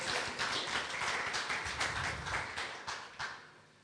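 A crowd applauds steadily, a dense wash of many hands clapping with a few sharper individual claps standing out, sustained for several seconds before thinning slightly at the end.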